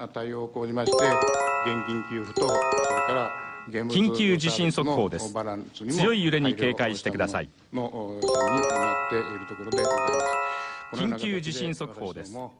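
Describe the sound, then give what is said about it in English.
A televised earthquake early warning alert interrupting a parliament hearing broadcast during the massive 2011 quake: bright, rising electronic chimes sound twice, several seconds apart, while a man speaks urgently over and between them, warning that a strong earthquake is about to hit the northern part of the country. “The man talking over those chimes is warning that a strong earthquake is about to hit the northern part of the country.”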